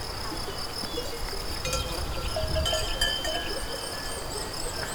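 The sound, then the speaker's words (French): Cowbells on cows clank and jingle across an open meadow in the Pyrenean mid-mountains, irregular and soft, over a steady bed of insect chirring and a light breeze. No one speaks. “Des vaches.”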